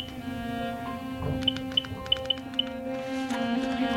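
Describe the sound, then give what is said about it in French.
A handful of short electronic phone tones chirp in quick succession as a call is placed to a mobile phone, fairly soft, over a steady low electrical hum with no one talking. “Bon, je vais appeler maman. Sur le portable? Oui.”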